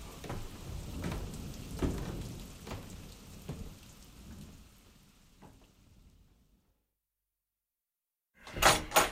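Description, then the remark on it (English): Heavy rain beats down at night in a steady hiss, broken by occasional dull thumps, then cuts to silence before a sudden loud burst of noise near the end. “The dogs were running loose, the rain was beating down, and all the doors and windows were safely locked as I climbed the stairs to my well-earned night's rest.”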